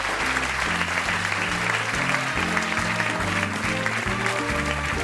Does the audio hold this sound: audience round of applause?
yes